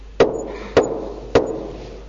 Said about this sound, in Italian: Ecco, io sto alla porta e busso. Se qualcuno ascolta la mia voce e apre la porta, io entrerò da lui e cenerò con lui ed egli con me. Che bella espressione della Bibbia. Gesù è alla porta e bussa.